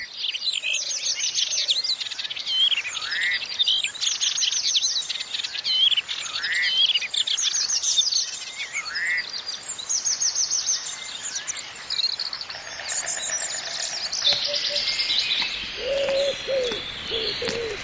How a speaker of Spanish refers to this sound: Los bosques que hace poco estaban sumidos en el silencio, ahora resuenan con el canto de los pájaros que reclaman una pequeña parcela donde criar a sus vástagos.